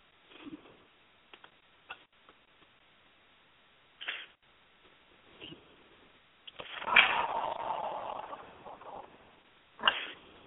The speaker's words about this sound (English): I'm shuffling the cards.